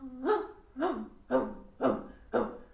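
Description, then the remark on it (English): A person's voice imitates a dog barking, five short, evenly spaced barks about half a second apart, fairly loud, with no other talking. “So so if you do it quite enough, eventually you will reach the point where you just start barking, and that's what we exactly need.”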